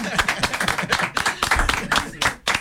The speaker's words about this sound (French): Et là, on a le droit d'applaudir.